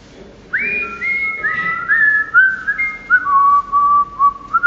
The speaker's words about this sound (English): came down the hall today whistling.